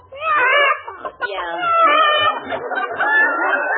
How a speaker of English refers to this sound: I found one of your chickens in my yard, and I brought it back.